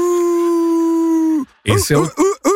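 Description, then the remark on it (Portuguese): A man with werewolf syndrome imitates a wolf howl with a long, steady, loud wail that breaks off abruptly, followed by a few short, clipped vocal yelps. “Esse é o tiozão uivando.”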